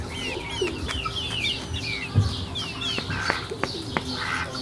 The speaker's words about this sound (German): Da hört man die Ente.